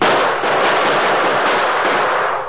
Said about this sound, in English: Crouched on either side of Pop Hendricks and a photographer, the Lone Ranger and Tonto returned the deadly gunfire of their unknown assailants.